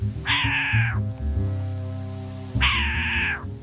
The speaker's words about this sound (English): I just saw a short-eared owl swoop by and make the cat noise I heard earlier.